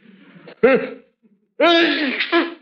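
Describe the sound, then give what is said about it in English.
A short sharp intake, a pause, then a loud sneeze with a drawn-out voiced 'ah' that ends in an abrupt burst, from one person who has caught a cold. “Bless you.”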